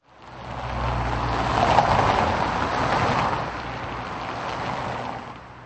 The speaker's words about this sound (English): Every second vehicle on this busy motorway outside Prague seems to be a goods lorry.